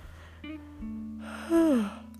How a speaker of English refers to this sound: Dang, I'm sorry, I'm yawning a lot.